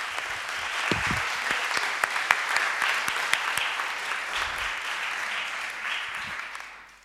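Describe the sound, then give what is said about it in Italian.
Sustained applause from an audience at a municipal council meeting, for Councillor Rossetto, then mayor, and his administration, a dense steady patter of many hands clapping for several seconds before tapering off at the end, with no voices over it. “grazie a un'intuizione del consigliere Rossetto, allora sindaco, e della sua amministrazione di cui faceva parte anche il consigliere Moratto, quindi a loro va un applauso.”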